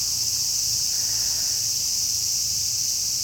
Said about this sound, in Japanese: これは配信にも聞こえてるかな。まあすごいセミの音、元気ですね。この暑さでご機嫌になってますわ。